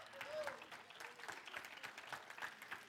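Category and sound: crowd, applause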